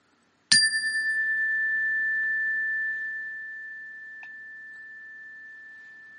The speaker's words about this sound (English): Before we get into the talk, let's take a mindful pause to help center and ground ourselves. I will start and end it with a chime.